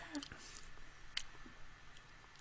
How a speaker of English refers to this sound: Taking a sip, yeah! It's a rough one. It's, it's got, I gotta try that again, sorry. Taking another sip, yeah!